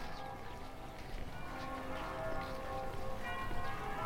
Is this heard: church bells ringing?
yes